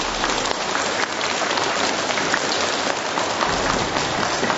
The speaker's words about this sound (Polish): Także gorącymi oklaskami serdecznie Was witamy.